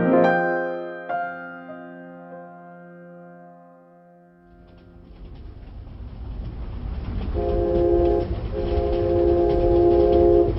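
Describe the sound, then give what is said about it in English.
A long train horn sounds and fades, then the heavy, steady rumble of a train rolling along the rails swells up, loud, with a second horn blaring over it. “I've never been on a train, you know?”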